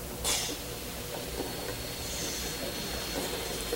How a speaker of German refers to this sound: Und auch dafür gibt es hier eine Lösung, die sieht nämlich so aus. Ein Mini-Staubsauger.